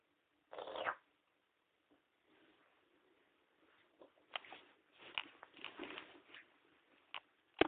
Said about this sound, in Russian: Я кота мучаю.